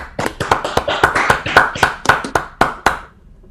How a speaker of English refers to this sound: So let's all unmute to give her a round of applause for her great talk.